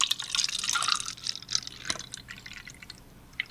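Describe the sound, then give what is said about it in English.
Wine poured into a glass right by the microphone, a bright, gurgling splash that thins into a trickle and a few last drips over about three seconds, with no talking. “Okay, everybody has to be really quiet and then pour the wine next to the microphone the next time we pour because it sounds super cool.”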